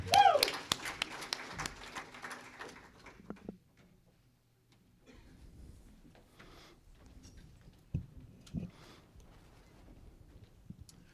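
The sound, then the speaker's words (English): An audience at a church service claps hands in a loud, dense burst of overlapping claps for about three seconds, then it fades into quieter shuffling and murmuring voices. “Somebody say amen and clap those hands.”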